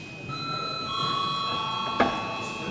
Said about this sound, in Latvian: Lūdzu zvanu.